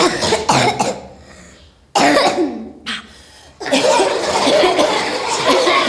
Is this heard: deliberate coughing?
yes